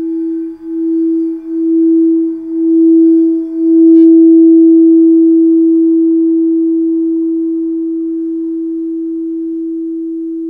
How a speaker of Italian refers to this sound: Diciamo che il suono delle campane di cristallo è un suono multidirezionale. Sì, se avete sentito, sente, rotea, gira, sì, ed è in grado di espandersi fino a 1 chilometro di distanza. Dunque, per chi è in sala, è molto penetrante